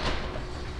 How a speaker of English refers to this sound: Doors closing.